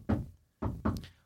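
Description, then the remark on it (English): Three dull, muffled knocks on wood from underneath a hidden wooden trapdoor: a single thud, a short pause, then two quicker ones close together. Fairly quiet, with no voices. “I knock back. With your paw.”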